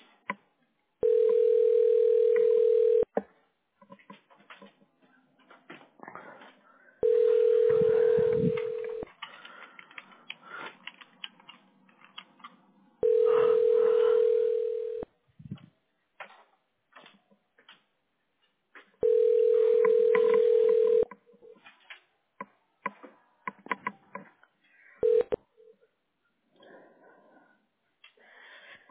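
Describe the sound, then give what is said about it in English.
A telephone ringback tone repeats four times, each steady tone lasting about two seconds with roughly four-second gaps, loud over faint background clatter. “Answer the phone, Victor.”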